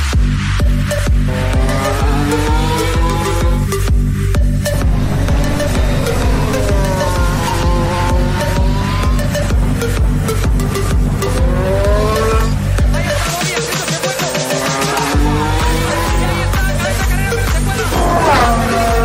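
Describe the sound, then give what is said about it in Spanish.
Racing car engines roar and rev loudly and continuously, their pitch sweeping up and down, with a burst of tire squeal partway through and no voices. “pero ahora nos vamos con nuestra sección de motor, así que rujan los motores.”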